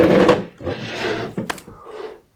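A wooden chair scrapes and bumps across a hard floor, a few rough dragging pushes with a sharp knock in the middle, then a softer final shove.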